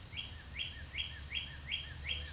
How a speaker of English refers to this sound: We're going to let the bird take over for a little bit.